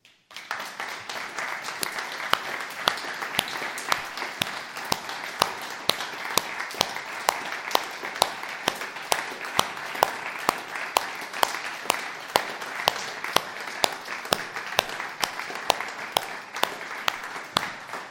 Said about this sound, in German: lasst uns einfach mal einen Applaus geben für alle, die sich hier in Mutschelbach in der Gemeinde einbringen.